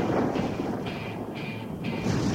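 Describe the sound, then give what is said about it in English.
A deep, rolling thunder boom rumbles steadily for a couple of seconds, heavy and fairly loud, with a dense low roar and no voices. “The thunder boomed again.”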